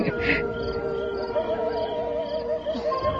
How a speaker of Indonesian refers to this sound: Serigala melolong. Apa artinya? Ya, Artinya adalah serigala itu pasti melihat sesuatu.